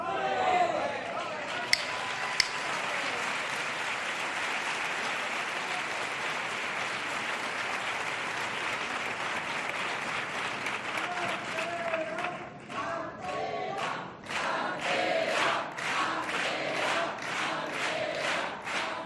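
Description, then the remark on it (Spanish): Sustained applause from a theatre audience, a dense steady wash of clapping that later breaks into more uneven, individual claps with some crowd voices mixed in. “Gracias a cada aplauso de este teatro, podéis estar tranquilos, que hay cuarteto para el rato.”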